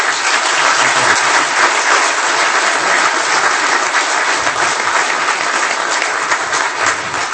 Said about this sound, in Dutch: Hartelijk gefeliciteerd, dames en heren, applaus.